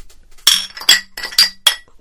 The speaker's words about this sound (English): Here's to 500 more, boys. Let's clink these empty glasses together.